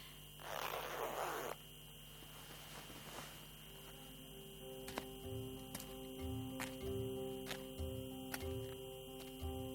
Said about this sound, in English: I better zip up my hood or I will freeze.